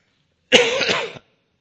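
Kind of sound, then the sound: human body sound, cough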